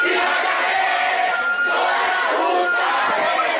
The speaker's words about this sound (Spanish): Arengas y aplausos que fortalecen las ganas de seguir manifestándose se escuchan en la plaza principal de la universidad por parte de los estudiantes que rechazan a Víctor Armenta como el nuevo rector encargado.